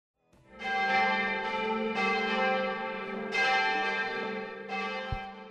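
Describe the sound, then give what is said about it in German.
Several church bells of the parish church of St. Nikolaus in the small town of Hall in Tirol, near Innsbruck, ring together in a rich, overlapping peal, strong repeated strikes every second or so over a sustained humming resonance, fairly loud and steady with no voices. “Die Glocken, die Sie hier hören, das sind die Glocken der Pfarrkirche St. Nikolaus.”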